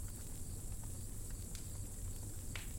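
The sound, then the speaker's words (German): Crickets chirp softly in the undergrowth at night in a steady, continuous high drone, faint, over a low background rumble with no voices. “Grillen zirpen leise im Unterholz und ab und zu durchbricht der Schrei eines Uhu die stille Nacht.”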